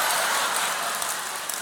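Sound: audience clapping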